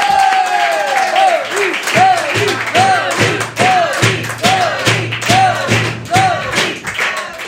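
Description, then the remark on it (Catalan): Sustained audience applause welcoming a guest fills the whole stretch, a dense, steady patter of many hands clapping, with a bouncy musical sting playing over it. “Així que rebem amb un fort aplaudiment a David Fernández!”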